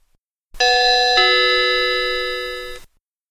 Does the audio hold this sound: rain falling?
no